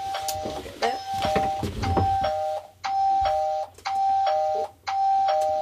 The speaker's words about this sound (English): These chimes are the ding-dongs, and they announce arrivals and departures. Well, this computer screen is telling me which kākāpō are in their nest or which kākāpōs have left their nest.